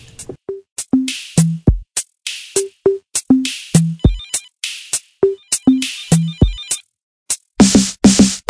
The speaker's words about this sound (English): I keep having the same nightmare over and over again. Just the phone won't stop ringing.